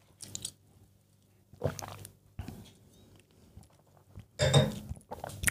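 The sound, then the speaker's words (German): Crunchy chewing and biting of food, with several bursts of crisp crunches separated by brief pauses and a particularly loud bite near the end; no talking. “Der ist so lecker.”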